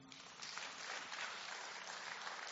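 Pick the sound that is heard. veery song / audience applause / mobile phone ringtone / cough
audience applause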